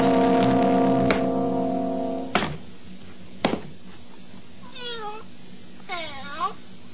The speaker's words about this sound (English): Aw, puss. You were waiting for me, were you? Look at you, winding above my ankles. Glad to see you too, Tabby.